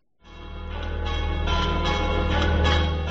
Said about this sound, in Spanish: Las campanas de la Catedral de Valladolid despedían junto a miles de vallisoletanos a quien durante 27 años estuviera al frente de la diócesis, don José Delicado Baeza, quien desde 2005 fue arzobispo emérito de Valladolid.